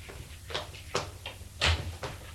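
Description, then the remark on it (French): A maid opens a door: a series of sharp latch clicks and handle rattles, ending in a heavier knock-like thump as it swings, all fairly quiet with no one speaking. “La bonne va ouvrir.”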